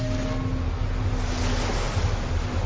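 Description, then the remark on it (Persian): Rough sea waves surge and churn continuously around a ship lying at anchor, a dense, loud roar of water with a low steady rumble underneath and gusty wind noise, no voices present. “کشتی هنوز در میان آبهای ناآرام لنگر انداخته بود.”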